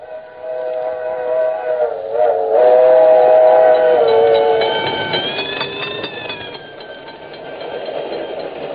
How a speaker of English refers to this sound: Bells excite my imagination. Ladies and gentlemen, have you ever heard the crossing bell while you're on a speeding train?